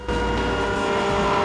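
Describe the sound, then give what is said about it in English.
A car brakes hard as a lorry pulls out in front of it, giving a loud, sustained screech with a harsh metallic ring that lasts about a second and a half, with no voices. “brakes sharply.”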